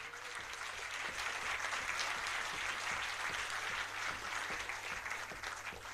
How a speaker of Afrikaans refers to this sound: Sal u net vir hom hande klap asseblief?